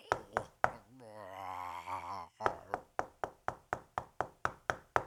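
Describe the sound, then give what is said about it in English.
A few sharp knocks, then a long wavering groan-like moan, followed by a rapid, steady series of loud knocks on a door, each hit crisp. “A knock at the door? What kind of zombie knocks?”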